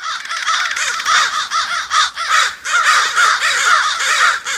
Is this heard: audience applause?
no